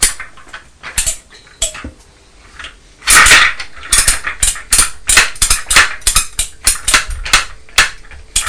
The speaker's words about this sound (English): You're just lifting the trailer part of the dumper truck up and down, aren't you? And making a noise. Up and up, right on your bus. Up and down, is that what you were saying?